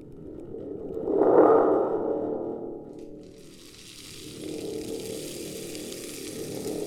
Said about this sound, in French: Donc, on a le connu bâton de pluie. Le bâton de pluie qui porte bien son nom.